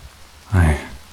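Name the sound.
rain falling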